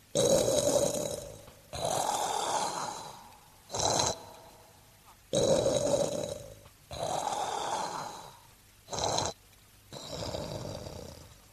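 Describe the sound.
Loud, rhythmic snoring from a man who fell asleep exhausted, lying on his back, with long rasping inhales alternating with shorter snorting breaths, repeating steadily about every three seconds with no talking.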